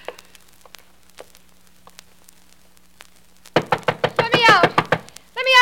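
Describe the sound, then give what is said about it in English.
A fist pounds on a door in a rapid burst of about eight loud thuds after a quiet stretch, while a voice shouts "Let me out!" over the banging. “Go bang on the door and yell, let me out, let me out.”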